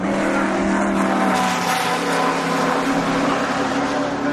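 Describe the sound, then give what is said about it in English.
Race car engines roar continuously, a loud, dense mechanical drone with layered harmonic whines as several cars race around the track together. “Whoa, they're racing now. Oh, man, it's nice to see. It's just, it's the sound.”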